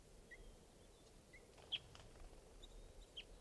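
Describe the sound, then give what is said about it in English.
A female type 2 crossbill gives a handful of short, high chip calls at irregular intervals, faint against a steady low rumble of background noise. “It's recording that female type 2 again.”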